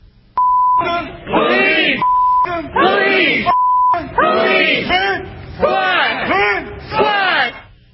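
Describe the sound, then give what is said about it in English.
A loud crowd chants in rhythmic shouted bursts, repeating a short phrase, "F the police" and "squash the police", while three flat, steady beeps cut in over parts of the chant during the first half. “And then there's a very inspiring and rousing chant by the crowd, which I think summarizes their position.”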